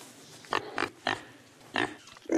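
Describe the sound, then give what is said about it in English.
A pig named Scruffy grunts and oinks in a series of five short, snorty bursts at an irregular pace, fairly loud, with no one talking. “Well, you cannot keep a pig in this house.”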